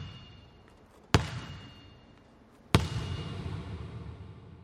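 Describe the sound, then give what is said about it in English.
A man slams a basketball hard on a gym floor in the corner of the room twice, each sharp smack followed by a bright metallic ping as the ball rises toward the microphone, and a long ringing decay, with no voices. “But then we went into the corner of the room, and I got elevated on the bleachers, and I had my microphone above the ball, and the guy slammed the ball on the ground, and then as the ball was coming up to my microphone, you hear the ping.”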